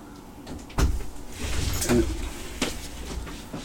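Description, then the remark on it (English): A door opens as someone enters: a sharp latch click, a brief creaking sweep as it swings, then a softer knock as it settles, with no one speaking. “Are you listening at the door? Because you came in at a perfect time.”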